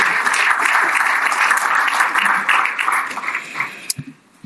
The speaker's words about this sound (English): But, yeah, she deserves a couple of applause, so go for it.